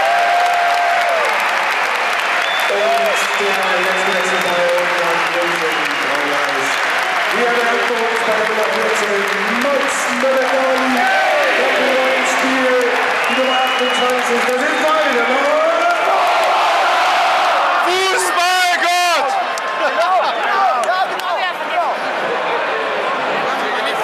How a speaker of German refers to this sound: Das ist dein Applaus